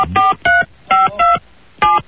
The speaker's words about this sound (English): Hold on. I'm dialing the number up.